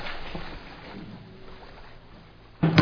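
Water sloshes and laps steadily around a small heaving rowboat, then a sudden loud wooden thump and knock near the end as people climb down into the boat.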